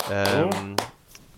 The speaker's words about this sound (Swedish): Det var inte jag som applåderade, bara så ni vet.